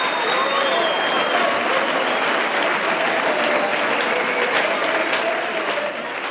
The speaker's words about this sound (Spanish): Tremenda recepción y aplausos más que merecidos para esta bellísima obra